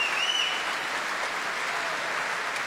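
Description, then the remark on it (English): Sustained, dense applause and cheers from a large opera house audience at the curtain call of the opera Macbeth fill the space, a steady wash of clapping with no breaks and no voices standing out. “Ben Macduff, whose aria got such an ovation, Yusuf Izvazov, giving his applause to the Royal Opera Orchestra.”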